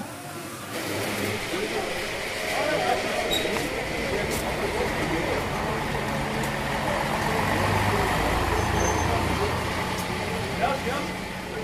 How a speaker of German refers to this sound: Feierabend. Das Tor öffnet sich, die Busse warten. Die Fahrer flachsen.